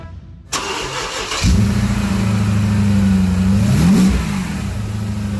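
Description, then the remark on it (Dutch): The engine of a 2014 limited-edition car, one of 200 built, with 10,000 kilometres on it, cranks and fires up, then settles into a steady, loud idle with a brief rev near the end, without any talking. “Goed, dan willen wij natuurlijk het geluid heel graag horen.”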